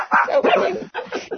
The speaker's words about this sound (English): Hey, quiet dogs.